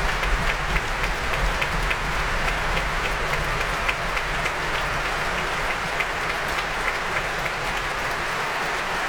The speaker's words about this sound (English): The stamping and the cheers there for Paul Lewis, this modest Liverpudlian.